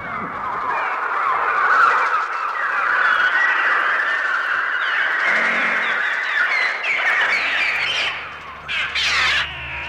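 A dense, relentless swarm of shrill electronic bird cries made by a trautonium, an electronic instrument, imitating the birds for Alfred Hitchcock's film The Birds, screeching and squawking over one another at a steady loud level, with a low droning hum creeping in near the end.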